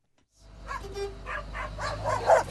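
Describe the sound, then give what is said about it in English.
A dog barks several times in quick succession beside a UPS delivery truck in rural Pennsylvania, with the steady low rumble of the truck's engine running underneath. “The UPS guy, the brown truck, the barking dog.”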